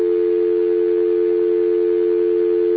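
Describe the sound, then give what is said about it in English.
A steady, unbroken telephone dial tone from a university's digital switch hums at an even level throughout, a continuous electronic drone with a faint background hiss and no talking. “And to me, that sounds the same as dial tones everywhere, but there is a subtle difference because this is coming off a digital switch, and it's the university, and it sounds different.”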